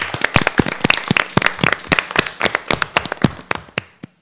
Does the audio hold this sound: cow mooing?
no